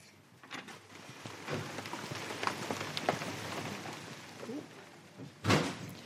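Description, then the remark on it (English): Steady rain patters outdoors, a dense, hissing wash of drops with scattered louder splats, ending in a sharp thud like a door slamming. “Do we have to run through the rain to get there? Yes, there are some bits through the rain.”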